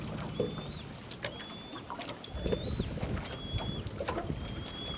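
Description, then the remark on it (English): A young eagle that survived the Cavity Lake Fire screams for food, five thin, high whistled calls spaced about a second apart, over a steady rushing and rustling background. “we hear a sound that gladdens Grover's heart, a young eagle screaming for food”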